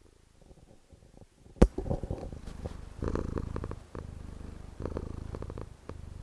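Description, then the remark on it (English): A gray domestic cat with a white face purrs in a steady, rumbling low drone with rhythmic pulses, preceded by a brief sharp thump and some quiet rustling, recorded on an iRig microphone. “I'm going to see if my cat has anything to say about this.”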